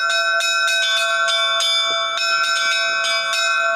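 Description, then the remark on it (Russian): Church bells peal in a rapid, overlapping sequence of bright strikes, their long ringing tones layering into a dense, resonant wash. Loud, with no voices. “Колокола, вот действительно, они в русской культуре, они очеловечены. Они очень... Колокол стонет, поет.”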